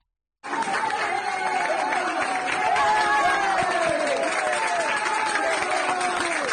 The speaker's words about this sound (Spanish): Se ve un largo pasillo humano formado por jóvenes que no paran de aplaudir.